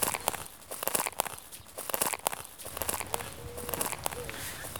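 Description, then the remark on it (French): Crunching footsteps of people following a guide walk steadily along a rough, small outdoor path, moderately loud, with irregular steps over dry ground and a faint outdoor background. “On va commencer par emboîter le pas de notre guide sur les petits chemins.”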